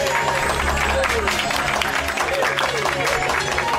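A dense, steady applause sound effect, a broad wash of many hands clapping at once, loud and continuous with music faintly underneath, played on a show to greet its guests.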